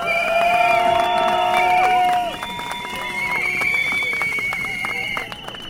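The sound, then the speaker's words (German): A crowd at an outdoor rally held by Rosa-Hilfe Freiburg in Freiburg, Germany, applauds itself with dense, steady clapping, mixed with cheers and several shrill, sustained whistles. It stays loud throughout, easing slightly after the first couple of seconds. “Erstmal ein Applaus für euch!”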